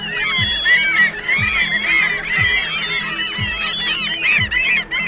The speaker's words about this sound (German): Zum Vergleich, eigentlich hören sich Möwen so an.